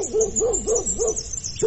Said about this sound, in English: Hysterical barking led me to the backyard where the dogs were chained up.